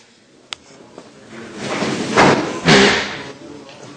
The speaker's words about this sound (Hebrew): כשהכיסא מוריד אותי למטה.